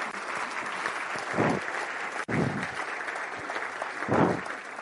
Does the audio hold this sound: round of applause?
yes